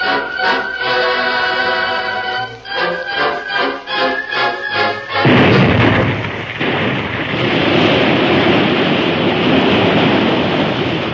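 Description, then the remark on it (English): A rhythmic, rumbling series of booming explosive blasts fired at dawn suddenly gives way to a loud, continuous roar of gushing, geysering river water that fills the rest of the scene as the river settles into a new course down a different side of the hill. “At dawn, the blasts were fired. The river gushed and geysered, then settled into a new course, rushing down a different side of the hill.”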